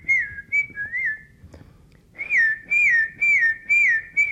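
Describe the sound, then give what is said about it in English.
A whistled call for summoning a horse named Captain: a few softer sliding whistles, a brief pause, then a louder run of five swooping, rising-and-falling notes in quick succession, with no talking. “That's what we call a horse.”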